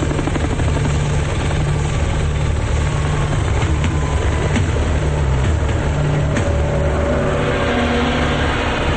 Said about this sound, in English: Shown from overhead, a helicopter speeds through the sky. Small islands meander into the distance, and sunlight glistens on the water below.